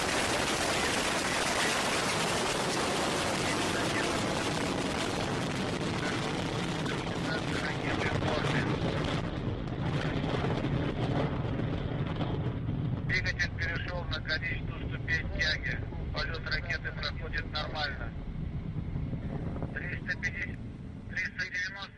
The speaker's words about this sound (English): That was the sound of one of the many Russian rocket launches to outer space.